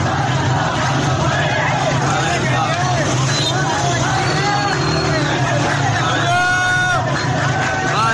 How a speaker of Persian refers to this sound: صدای اعتراض مردم در شهر ویس در شمال اهواز رو بشنوید.